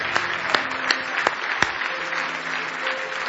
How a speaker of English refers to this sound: Are you glad about it? Give Jesus one more hand clap of praise. Hallelujah.